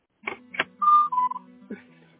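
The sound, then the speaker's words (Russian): A few sharp telephone handset clicks, then a couple of short, steady electronic beeps of dialing tones as someone redials a number, fairly clear with no talking. “Давайте сейчас снова попробую набрать.”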